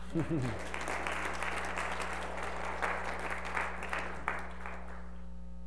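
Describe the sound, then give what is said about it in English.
Sustained applause from a church assembly thanking a guest, a dense patter of many hands clapping steadily for several seconds over a constant low electrical hum, tapering slightly at the end. “On behalf of them, give them a round of applause.”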